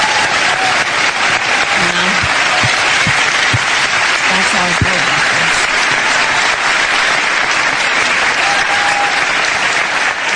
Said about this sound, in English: Big round of applause for Kamala Harris there